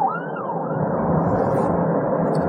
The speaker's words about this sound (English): I apologize, there's an ambulance passing by.